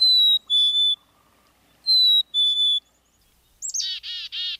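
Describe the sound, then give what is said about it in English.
Black-capped chickadee calls, clear: two pairs of pure whistled notes, a pause between them, then a quick buzzy run of repeated dee notes. No voices. “But I'm sure happy that I made it to Baker Woodlot on March 2nd, 2025, and that I saw black-capped chickadees on the golden anniversary of seeing my first one.”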